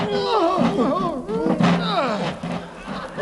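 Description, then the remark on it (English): A heavy iron door groans open, its hinges letting out a long, wavering creak that rises and falls in pitch over several seconds, fairly loud throughout. “Give me a hand with this iron door, will you, sir?”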